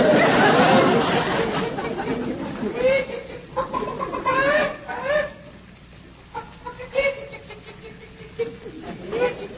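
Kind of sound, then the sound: bird, chickens clucking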